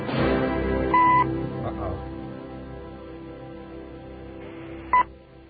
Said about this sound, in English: Sounds like an ominous little beep there.